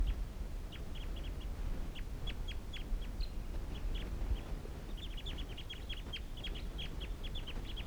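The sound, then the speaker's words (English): A wild flock of birds calls in short, high, repeated chirps, coming in irregular bursts that thicken toward the end, over a steady low rumble of background noise. No one speaks. “And these are the wild birds calling.”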